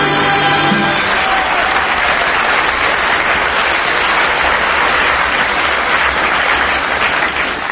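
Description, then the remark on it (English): Steady, loud audience applause fills the whole stretch, a dense wash of many hands clapping without pause; a brief musical tone fades out in the opening second. “Thank you for that spontaneous applause.”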